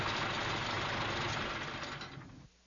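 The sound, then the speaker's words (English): A car engine idles steadily with a low, rumbling hum, then cuts off abruptly near the end, leaving near silence. No one speaks. “Wait a minute. Let me turn off my engine.”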